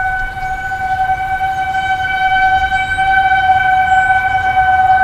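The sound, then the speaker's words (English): A steady, sustained outdoor tornado warning siren holds a loud, unwavering tone for several seconds, with a low rumbling background underneath and no voices. “National Weather Service officials hope you seek shelter as it's a siren heralding the issuance of a tornado warning.”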